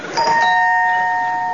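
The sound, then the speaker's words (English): A doorbell rings once, a bright chime struck near the start whose clear tones ring on steadily and slowly fade, with no voices over it. “I'll ring the doorbell.”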